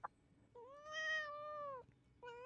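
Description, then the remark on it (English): A female cat lets out a long, drawn-out meow lasting over a second, followed by the start of another meow, with no talking. “That was actually her, too. She's got such a sassy mouth.”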